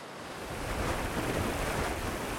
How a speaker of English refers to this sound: With the weight and the waves smacking against the side of the boat, it was always gonna be hard to get him aboard.